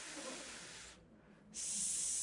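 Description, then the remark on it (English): A person makes a drawn-out, fairly loud hissing sound like a snake, voicing a rare Hebrew word from Proverbs, breaking off briefly before a second, brighter hiss. No words are spoken. “Like the hissing of a snake.”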